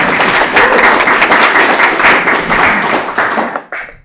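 A crowd applauds steadily for about four seconds, many overlapping claps forming a dense, loud patter that fades out abruptly at the end, with no talking over it.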